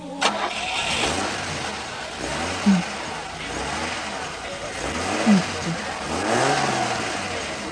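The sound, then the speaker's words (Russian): A car engine turns over and revs up in repeated surges, its pitch climbing and falling, then the car pulls away and drives out through gates, loud throughout. “Он пробежал мимо нас и выскочил к машине, которая уже выехала из ворот.”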